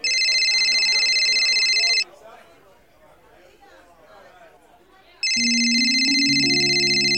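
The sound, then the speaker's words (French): A loud electronic mobile phone ring with bright, harmonic tones sounds for about two seconds, stops while a murmur of voices carries on, then returns along with a rising melodic tone. “Il était 5 heures le 26 septembre dernier quand Carmine, Stefano, Samuele et les autres ont entendu leur portable sonner.”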